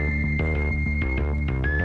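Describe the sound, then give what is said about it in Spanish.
A pulsing synthesizer sequence played on a 1972 keyboard repeats in quick, steady rhythmic steps, with a dense, buzzy low end and a thin high sustained tone gliding slightly above, loud and continuous with no voices. “Teclado de 1972. Las secuencias.”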